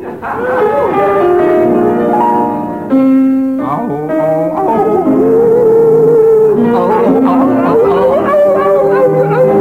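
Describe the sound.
Two voices sing a slow, gliding melody of an old French song in drawn-out howls, imitating wolves. The wavering, sustained tones run continuously and sound loud.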